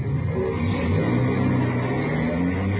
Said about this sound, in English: Starting the car. Here they come. Watch for the skipper's signal, huh? Yeah. There it is. Let's go.